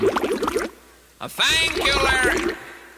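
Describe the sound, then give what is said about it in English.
A bubbling sound effect meant for the end of a program, fairly loud: a short burst of gurgling, watery pops, a brief pause, then a longer, busier stretch of rapid bubbling that fades at the end. “The bubbles don't come till the end of the program. Turn off the bubbles.”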